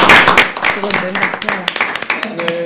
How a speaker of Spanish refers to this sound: ¡Ole, ole! ¡Un aplauso, ¿no? ¡Para ella! ¡Qué contenta!